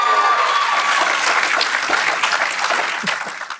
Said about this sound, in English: Big applause there.